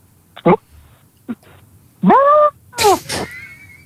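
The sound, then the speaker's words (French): A person imitates a turkey gobble: a few short throaty clucks, then two louder warbling, wavering calls, fairly loud with no talking. “Le cri du dindon, monsieur.”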